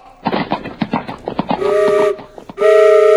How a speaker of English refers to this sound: Whoa! What is that sweet music I hear? Ah, yes! A train whistle! And right across the road on the way to Ottawa!